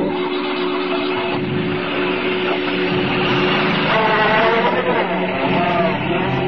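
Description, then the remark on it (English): A car engine hums steadily, then revs and climbs in pitch as two men drive away in a car that was parked in Kelvin Street, its loud, continuous rumble filling the whole recording. “After the car's gone, the old man manages to loosen the bonds tying his arms.”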